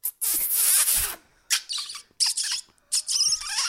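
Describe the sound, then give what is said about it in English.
A person imitates a fox call with shrill, squeaky yelps: one long screeching cry followed by three shorter high-pitched bursts, fairly loud, with no talking. “And then all the crowd could just make a fox noise in the audience.”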